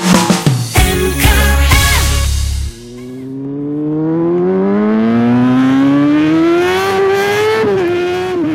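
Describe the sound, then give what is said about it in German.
A motorcycle engine revs in a few sharp, loud bursts, then settles into one long accelerating pull whose pitch climbs steadily, with no voices, in fine weather at the start of the motorcycle season. “Denn ja, bei dem schönen Wetter beginnt so langsam wieder die Motorradsaison.”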